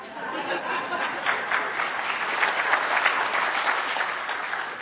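An audience claps steadily for about five seconds, a dense, even patter of many hands with faint murmuring mixed in, staying fairly loud throughout.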